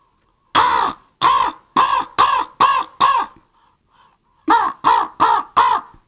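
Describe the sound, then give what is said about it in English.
A voice imitates a crow, giving six loud, harsh caws in quick succession, a short pause, then four more caws in the same rhythm, clear with no other sound. “And then there's a crow.”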